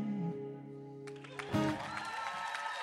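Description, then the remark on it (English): A song's final sustained chord rings out, then audience applause breaks in, a dense wash of clapping that swells and continues steadily to the end with some cheering. “Thanks for clapping.”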